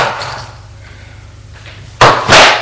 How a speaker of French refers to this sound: la porte a été défoncée et voit apparaître avec surprise David.